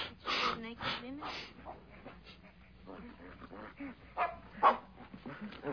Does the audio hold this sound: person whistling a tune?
no